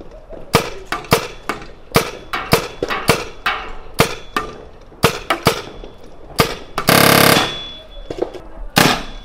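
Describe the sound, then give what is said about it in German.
Sharp paintball marker shots fired one after another at an irregular pace, each with a bright metallic ping ringing after it, plus one longer hissing burst near the end. “Die macht so ein Bing, Bing, so ein sehr metallischen Geräusch, hat sie nach jedem Schuss.”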